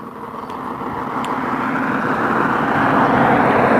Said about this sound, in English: Like that son of a bitch who started banging on his house 7:30 in the morning and is now working a power saw.